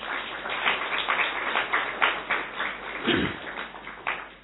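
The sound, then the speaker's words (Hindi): An audience applauds its own good fortune at Baba's place of austerity, many hands clapping at once in a dense, continuous patter that holds a fairly even loudness for several seconds, with no voices on top. “अपने भाग्य की ताली बजा सकते हो।”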